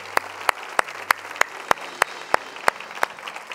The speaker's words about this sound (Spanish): Dale un aplauso a Él, dale un aplauso a Él. Aleluya.